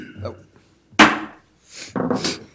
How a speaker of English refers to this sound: It sounds like a... Don't break that. Is that the historic gavel, right? Oh, my goodness. Isn't that the... He broke it, man.